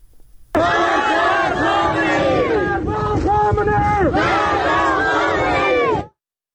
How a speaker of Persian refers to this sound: در خاش شهر دیگری در استان سیستان و بلوچستان تظاهر کنندگان علیه رهبر جمهوری اسلامی شعار دادند.